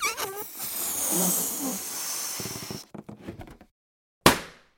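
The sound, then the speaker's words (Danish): A balloon is blown up in long, hissing breaths with faint rubbery squeaks, then after a brief silence it bursts in a single loud, sharp pop that quickly fades. “Det er selvfølgelig lyden af en ballon, der bliver pustet op og op og op og sprænger.”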